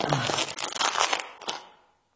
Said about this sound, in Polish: Jestem w skarbcu. Dużo tu skrzyń. Pewnie ze złotem. Chyba z monetami. No, rozwiążę jeden worek.